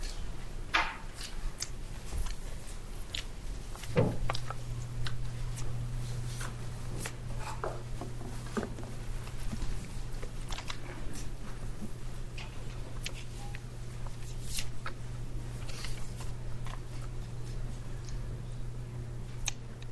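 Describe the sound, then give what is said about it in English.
Scattered rustling and shuffling in a quiet courtroom as people leave, with light clicks and taps coming and going over a steady low hum, and no one speaking. “Wait till the rustling is completed.”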